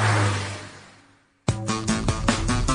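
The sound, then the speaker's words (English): A car engine roars with a low hum and broad rushing noise, fading away over about a second and a half; then it cuts out and music with clear repeating notes begins. “The cars in front of me sped up, and so did I.”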